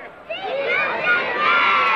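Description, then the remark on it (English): A crowd of schoolchildren cheering and shouting together, a dense, high-pitched wash of young voices that swells up after a brief quieter start and stays loud throughout. “School children cheer.”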